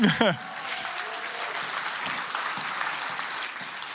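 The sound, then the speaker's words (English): A crowd gives a round of applause to a man who came back for his forgotten Bible, a dense wash of clapping that holds at an even level throughout, after a brief rising vocal sound at the start. “He accidentally forgot his Bible so that we could all give him a round of applause.”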